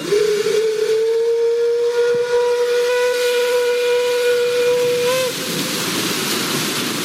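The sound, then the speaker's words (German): The steam whistle of a 119-year-old paddle steamer on Lake Lucerne (Vierwaldstättersee), which runs from Lucerne to Flüelen and back, sounds one long, loud, steady blast for about five seconds, rich with harmonics, over a hissing background, then cuts off leaving the hiss. “Seit 119 Jahren fliegt sich der Dampfer unermüdlich durch den Vierwaldstättersee, von Luzern auf Flüeler und wieder zurück.”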